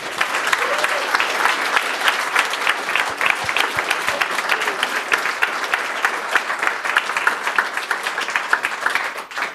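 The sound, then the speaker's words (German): Sustained audience applause for the organizers of a Jugend hackt event in Munich, Bavaria, a dense steady patter of many hands clapping at an even loudness for about ten seconds, with no voices standing out above it. “Großer Applaus an euch.”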